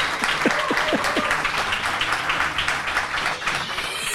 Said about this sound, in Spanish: Incluso aplausos. Lo tienes.